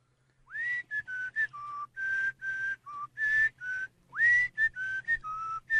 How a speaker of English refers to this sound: Whistler number one, take it away.